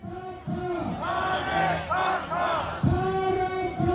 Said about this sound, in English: Earlier, crowds started gathering outside the detention center where he's being held.